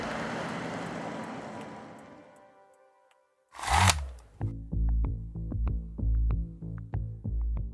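A car's broad rumble fades steadily away over a few seconds as two people drive on, then after a short silence a sharp thump leads into rhythmic music with a steady beat.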